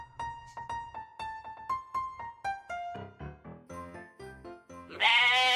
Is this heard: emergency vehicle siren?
no